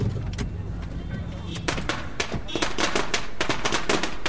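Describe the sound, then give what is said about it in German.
A string of Chinese firecrackers goes off in front of the entrance of a large business hotel complex in a city, in rapid, irregular bursts of sharp cracks that grow denser and louder, over a low background rumble like street traffic. “Vor dem Eingang fette China-Böller und Konfettikanonen.”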